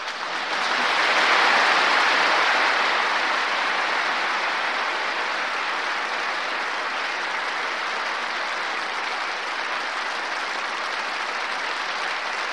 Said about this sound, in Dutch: Een heel bijzonder moment dat deze passage van de reden van koningin Beatrix werd onderbroken door een krachtig applaus uit de kerk.